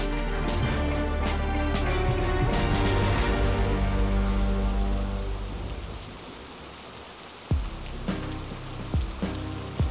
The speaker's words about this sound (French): Une pluie diluvienne s'abattait sur les Pouilles en ce premier après-midi de novembre.